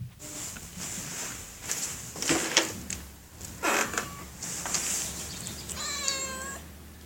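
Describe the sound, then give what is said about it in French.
A cat meows, a short, tonal cry near the end, after a few faint shuffling and rustling sounds. No one speaks. “Ici, on ne miaule pas. Enfin, presque.”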